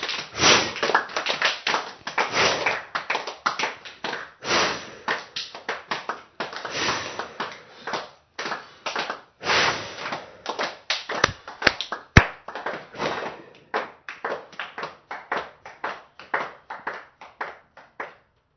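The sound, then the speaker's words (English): Hand clapping in uneven flurries for almost twenty seconds: rapid runs of sharp claps broken by short pauses, mixed with breathy sniffs and exhales, and no talking. The clapping and breathing are done to send something out through the vortex. “We're going to clap and breathe and send it out through the vortex.”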